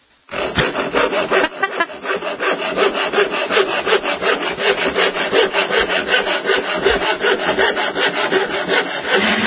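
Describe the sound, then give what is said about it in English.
A handsaw cuts steadily through wood, its rasping back-and-forth strokes repeating in a fast, even rhythm. Loud, it continues on its own with no voices. “I think we have a simulation of Pete's saw somewhere at the studio”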